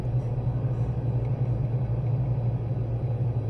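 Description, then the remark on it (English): A steady, low engine rumble drones on without a break, with a constant deep hum at an even loudness throughout and no voices, about 50 meters from a canyon entrance, just before the engines are cut. “Cutting engines?”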